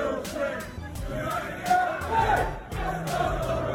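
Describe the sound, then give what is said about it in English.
A football crowd gathered around the stadium entrance used by the teams chants loudly, a dense wall of many overlapping voices with steady rhythmic surges and brief sharp bursts, continuing without pause for the whole stretch. “The area surrounding the entrance that the teams use have now been taken over by the assembled crowd.”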